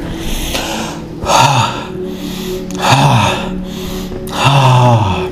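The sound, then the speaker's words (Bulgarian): Forceful bhastrika (bellows) breathing: three loud, rushing breaths at a steady rhythm about a second and a half apart, breathy, with a low hum underneath and no talking. “Дълбоко, мощно дишане, бастрика.”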